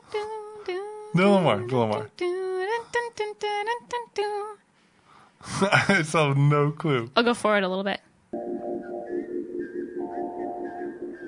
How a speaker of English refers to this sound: It's a girl whistling it. Okay. It's in a violent movie. Kill Bill? Yeah.